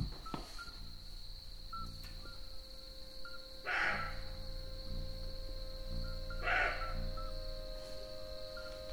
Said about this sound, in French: C'est quoi, c'est les grillons, ça ? Les grillons, c'est quand il fait chaud.